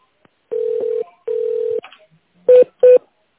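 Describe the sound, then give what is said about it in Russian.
Telephone keypad tones of an extension number being dialed: two long, steady mid-pitched beeps, then a brief pause and two short, sharp key presses in quick succession, with no voices. “Если вам необходимо отправить факс, наберите добавочный номер 102.”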